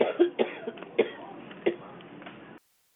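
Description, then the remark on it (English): Several sharp coughs come through a narrow, muffled phone-line sound, spaced irregularly over a couple of seconds with a low background hiss, then the line cuts to silence. “Because who's ever coughing, maybe mute their phone.”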